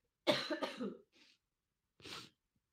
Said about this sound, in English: Coughing and sneezing is great.